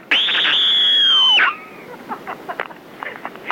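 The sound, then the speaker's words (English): A loud, piercing human scream, held steady and shrill for about a second and a half before breaking off with a downward slide, followed by faint scattered noises. “This is what I think of your stupid, wanky scream idea.”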